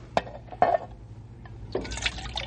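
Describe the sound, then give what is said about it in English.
Water from a water bag splashes and trickles into a metal pan in a few short bursts, then settles into a steadier, hissy pour near the end, with no talking; the water is for wetting the mouths of horses and burros. “me take water bag and help Ralph. Yeah, hold this pan, will you”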